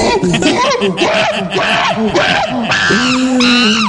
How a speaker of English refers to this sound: I know Ray doesn't like it when we play the monkey sound. When he comes on, he's offended by that. He takes umbrage to it.